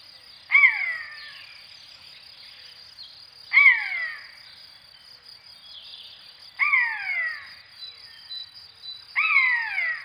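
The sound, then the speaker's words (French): A common buzzard gives four mewing, downward-slurring calls spaced a few seconds apart, each clear and fairly loud, over a steady high buzz of insects or crickets. “Là, vous avez deviné qu'on parle de la buse, et plus précisément la buse variable.”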